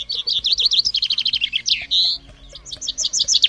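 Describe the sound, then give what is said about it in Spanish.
A small finch sings a rapid, high-pitched series of bright chirps and warbling trills, loud and continuous with a brief pause midway before the twittering resumes. “Bueno, podría ser, pero fíjate que esta mañana te voy a cambiar este monstruoso, bestial y sanguinario grito del T-Rex por el agradable y apacible canto de un pequeño pinzón.”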